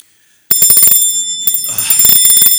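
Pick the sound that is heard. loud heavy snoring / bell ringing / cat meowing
bell ringing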